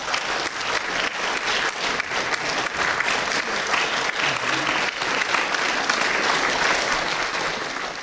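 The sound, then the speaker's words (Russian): Steady audience applause welcomes pianist Anna Zanina onto the stage, a dense, full patter of many hands clapping at even loudness, with no speech over it. “Давайте ее поприветствуем.”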